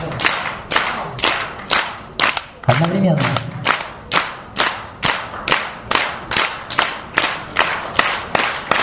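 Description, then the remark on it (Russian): Sharp hand claps repeat in a steady, quick rhythm, each one a crisp slap of the left palm striking the right hand held as a base, with a brief spoken word breaking in partway through. “Вот правая рука, она такая, как основание. И левый идет хлопок.”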